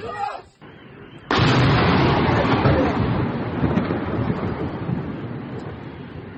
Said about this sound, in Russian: А, в дом попали. Во, этот. Сбило дрон, и дрон в дом упал. Реально дрон. Это дрон? Да.